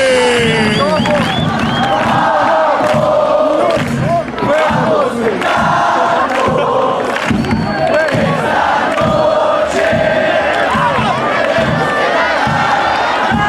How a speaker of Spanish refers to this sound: ¡Campeonas, campeonas, campeonas! ¡Grita la gente!